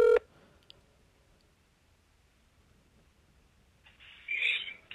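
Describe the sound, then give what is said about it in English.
A short, loud electronic phone tone opens a call to a former coworker, followed by several seconds of quiet line hiss while the call connects, then a brief burst of rustling static near the end. “If he picks up, this will be gold.”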